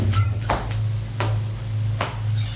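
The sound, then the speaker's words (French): A door opening: three short, sharp clicks and knocks of a latch and handle, spaced about a second apart, over a constant low mechanical hum. No one speaks. “La porte s'ouvre.”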